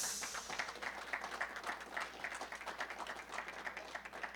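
An audience applauds with dense, steady clapping that holds at an even level for about four seconds, with no voices over it.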